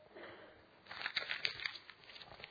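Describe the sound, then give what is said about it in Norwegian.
A 100-kroner paper banknote being crumpled by a priest during a church service, a quick run of dry crackles and crinkles that starts after a short quiet moment and continues to the end, fairly soft overall. “Selv om jeg krøller den, hopper på den, jeg gjør ikke det til vanlig altså, men om jeg gjør det nå”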